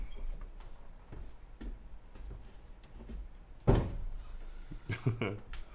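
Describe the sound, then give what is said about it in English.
A door swings shut with one solid thud partway through, preceded by faint clicks and handling noises and followed by a few softer knocks. “Oh, I should close no. this door again.”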